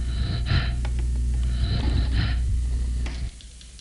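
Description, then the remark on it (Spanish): Steady, even breathing of a chimpanzee resuming after brain stimulation is switched off, with two or three audible breaths drawn at a regular pace over a constant low hum. It is moderately loud, and no one speaks. “Vuelve la respiración normal.”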